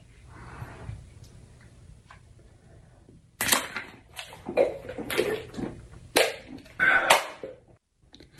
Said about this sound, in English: Helps with your consumption of a shotgunned beer.